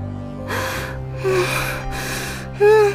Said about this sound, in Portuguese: Ama, o que tem você? Por que está assim, ofegante e aflita?